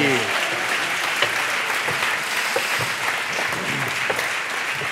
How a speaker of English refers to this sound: Oh, a round of applause. We haven't even done anything. This is fantastic. What a joy.